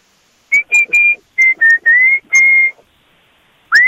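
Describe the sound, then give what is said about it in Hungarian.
A man whistles a short song melody outside his workplace, a rubber factory in Katabánya. It is a series of clear sustained notes with brief gaps between them, ending after a pause on one last rising note. “Na gyere, mutasd, mit fütyülsz, tudjuk?”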